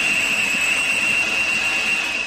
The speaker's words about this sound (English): We saw a destroyer on the horizon coming toward Harrow Strait. And actually, before we even saw it, we heard it.